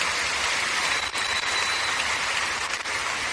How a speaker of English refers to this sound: Give the Lord a big clap offering, everybody.